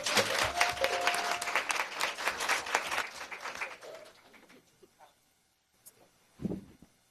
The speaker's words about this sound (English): Hey guys, we are doing this for children, so let your round of applause be enthusiastic. This is for our children.